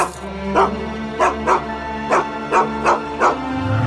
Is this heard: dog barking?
yes